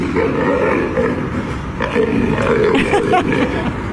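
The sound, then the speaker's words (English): A lion growls and grunts in low, rumbling bursts, fairly loud, continuing throughout with short pauses between guttural snarls, as it freaks out in the arms of a woman carrying it down the street. “So this is a woman carrying a lion down the street like it's a toddler with a tantrum.”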